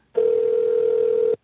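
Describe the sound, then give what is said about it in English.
A single steady telephone ringback tone from a call placed to a man's phone, a smooth mid-pitched hum lasting just over a second, heard clearly through a phone line with no talking. “I like how much faster it's ringing now.”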